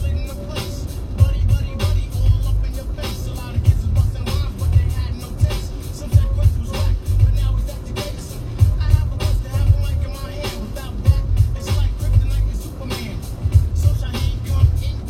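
A car drives along a winding canyon road through wilderness, its deep engine and tire rumble steady throughout, with occasional bumps and rattles as it moves.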